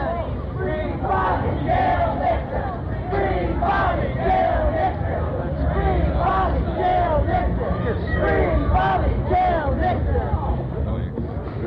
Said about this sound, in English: Because it is almost entirely a white crowd. Not just the people who are here to be spectators, but almost all the people behind the barricade. These are the people who are cheering.